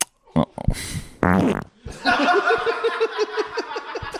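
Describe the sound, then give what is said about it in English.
A loud fart into a butt microphone rips out in a couple of sputtering bursts, followed by a stretch of rhythmic, breathy laughter that continues to the end. “That's we record farts on this podcast and we fart into.”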